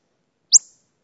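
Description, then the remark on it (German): A single simulated bat echolocation pulse, shifted to an audible pitch: one brief, high, rising chirp with a short fading tail, alone against silence. “Haben Sie es gehört? Das war der Puls.”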